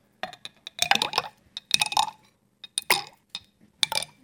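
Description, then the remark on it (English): Stones plop one after another into a water-filled tube to make the water rise so a ball inside can be taken out, each drop giving a bright splash with a faint glassy clink, spaced irregularly with short pauses and no talking. “I think I'm going to put stones in the bottom so the water rises up.”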